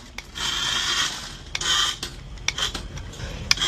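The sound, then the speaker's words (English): A small remote-controlled car, used by animal rescuers on Long Island to nudge a stuck kitten out of a pipe between storm drains, grinds and rasps along inside the pipe in two long scraping bursts, then shorter rattles, sharp clicks and knocks, with a low rumble underneath. “This is audio from animal rescuers using a remote-controlled car, hoping to nudge the kitten from the pipe between storm drains.”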